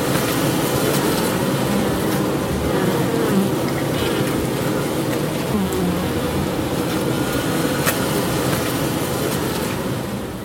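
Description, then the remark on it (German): A dense, steady drone of honeybees buzzing inside a hive box in Fred Jacki's bee house, a traditional countryside beekeeping setup with about 40,000–50,000 bees in the box; a thick low hum layered with countless overlapping wingbeats, loud and continuous throughout with no voices. “Hören wir doch mal rein ins Bienenhaus von Fred Jacki.”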